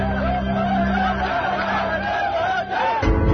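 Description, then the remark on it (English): A large crowd in the streets of Fallujah, Iraq, shouts and cheers in 2004 in a dense, continuous roar, many voices overlapping with rising yells and chants, loud throughout with a brief dip near the end. “On March 31st, 2004, four American military contractors were killed and their bodies were dragged through the streets of Fallujah by cheering crowds.”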